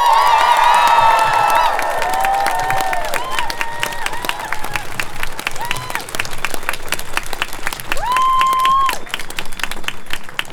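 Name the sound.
crowd cheering and applauding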